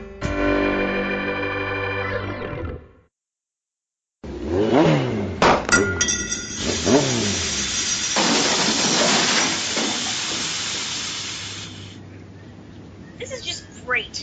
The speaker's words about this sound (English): Car breaks down the middle of nowhere. Now how am I supposed to get back home?